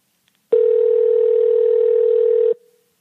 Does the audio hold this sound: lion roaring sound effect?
no